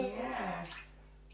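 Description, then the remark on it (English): Bath water pours and splashes in a short, bright gush onto a person's tummy, filling the belly button, and fades away after about a second, with a faint hint of a voice underneath. “See if you can get some in your belly button. Oh, you filled it up.”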